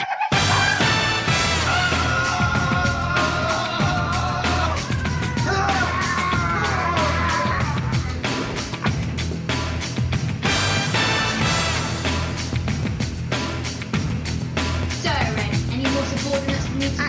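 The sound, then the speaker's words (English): A homemade remake of the Kill Bill fight scene where the Bride takes on the Crazy 88, staged in someone's living room: loud, near-constant yelling and shouting bursts over a dense, clattering din, with strained pitched cries rising and falling throughout. “This is the classic fight scene where the bride takes on the crazy 88, but it's in someone's living room.”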